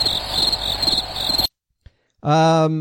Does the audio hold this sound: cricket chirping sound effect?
yes